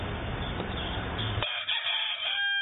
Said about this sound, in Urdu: میرا آپ کی بارگاہ میں یہ سوال ہے کہ اکثر اوقات دیہات میں جو مرغے ہوتے ہیں اسے کہا جاتا ہے کہ صبح اٹھ کے یہ آزان دیتا ہے, تو یہ کیا درست ہے؟